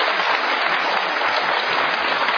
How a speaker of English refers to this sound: Big round of applause. Shutting that pastor down.